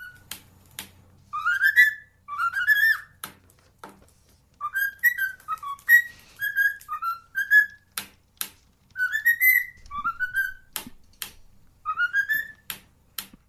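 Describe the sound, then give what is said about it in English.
A parrot in Ankara, Turkey whistles a bouncy 1960s television theme tune in short rising phrases, punctuated by crisp beak taps in pairs that mimic the theme's finger snaps, clear with no talking. “That's the turkey tapping its beak to do the snapping sound of the Addams Family theme.”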